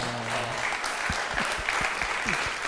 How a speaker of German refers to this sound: Ich muss einen Applaus euch geben, okay? Because you guys have been a blessing. Ich muss eigentlich euch einen Applaus geben, weil ihr ja so ein Segen wart.